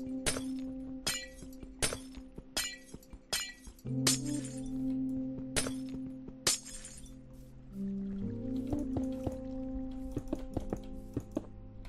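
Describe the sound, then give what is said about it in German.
A rapid series of sharp, loud glass shattering and crashing sounds as glass panes are torn down, with about a dozen breaks in irregular rhythm over a steady low hum and tinkling debris between impacts. “Wir reißen mal hier die Scheiben wieder ab.”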